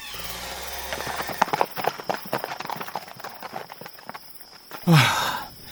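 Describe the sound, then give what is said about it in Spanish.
A donkey's hooves clip-clop in a quick, steady rhythm on hard ground for several seconds as someone leaves with it in Coahuistla, before a sudden loud, rough burst of sound cuts in near the end. “Me llevo el burro. Así llego más pronto.”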